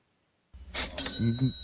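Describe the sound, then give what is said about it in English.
A cash register sound effect, used as a bet sound effect to mark a bet being placed, plays on its own: a quick mechanical clunk, then a bright ringing bell that lingers over two short low tones, all lasting about a second. “Do we have the bet sound effect?”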